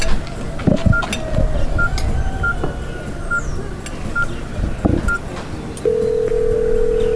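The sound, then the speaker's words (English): A string of short telephone keypad tones beeps at a steady pace as someone redials a child's father, followed by a continuous phone tone that holds to the end, over faint background clatter. “Please call him again and see if he will answer.”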